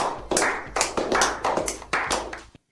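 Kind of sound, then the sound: crowd, clapping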